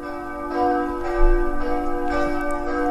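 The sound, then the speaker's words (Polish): A large church bell rings with a deep, sustained harmonic tone, struck repeatedly at a steady pace about every half second, each strike blooming over a long ringing hum. “możemy tutaj wybrać konkretną tonację dzwonu, który zamawiamy.”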